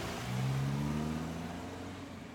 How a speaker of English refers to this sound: I went to a window near the front door and see my owner pack up in her car and drove off.